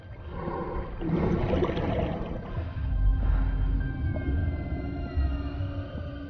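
Underwater sounds of a sperm whale calf that has been caught: thin tonal calls and a few gliding, rising cries drift over a steady rush of water noise and low rumble, with no voices.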